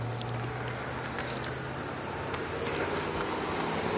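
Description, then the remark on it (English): Steady street traffic rumbles as three cars, one in each direction, head toward where a pedestrian is walking, a low engine hum running beneath broad, continuous road noise, with no one talking and no distinct pass-by swells standing out. “There's three cars, one in each direction, and they're all trying to go where I'm walking.”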